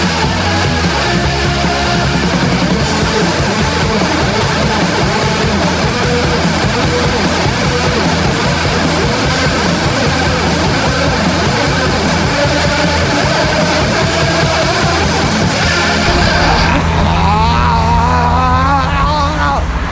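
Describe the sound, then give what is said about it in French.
A dense, continuous roar of heavy car traffic on avenue du Général de Gaulle between Paris and La Défense, France, about 800,000 cars a day, loud, with engines droning steadily throughout; near the end the texture shifts and a wavering tone rises above the din. “Au plus près du boucan, avenue du Général de Gaulle entre Paris et la Défense, ce flot de bagnoles, 800 000 bagnoles par jour.”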